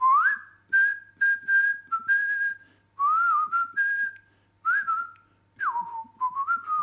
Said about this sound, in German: 4 Kilometer vor Astorga zog ich fröhlich pfeifend des Weges.